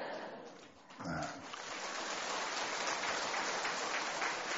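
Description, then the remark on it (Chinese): An audience breaks into sustained applause, a dense, steady wash of clapping that swells within the first second and stays loud to the end, with a brief voice at its start. “鼓掌的人基本上都不是神经病，我发现有六个人没鼓掌，那是神经病。”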